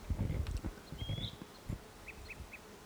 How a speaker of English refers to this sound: Wild bird. It's probably the same one that was giving flight calls.